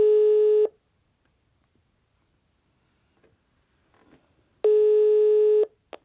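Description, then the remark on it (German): A telephone ringback tone sounds in two long, steady bursts separated by about four seconds of near silence, heard clearly as an outgoing call on speakerphone waits to connect. “Aber wir könnten ihn ja anrufen und fragen, was er von unseren Vorschlägen hält.”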